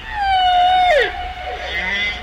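Humpback whale song recorded near Guadeloupe, off La Désirade: a long, harmonic, siren-like wail holds a steady pitch, then swoops downward, followed by softer rising and falling tones, with striking reverberation.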